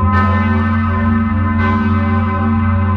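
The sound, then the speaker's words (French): Large church bells ring loudly, with two clear strikes about a second and a half apart over a continuous deep, humming resonance that never fades. No voices are heard. “C'est-à-dire qu'on a, depuis quelques années, on a la possibilité de mettre des sondes et de mesurer exactement les mouvements des cloches.”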